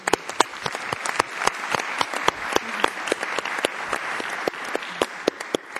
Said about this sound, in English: Ma'am, would you please rise so we can give you what you deserve, applause.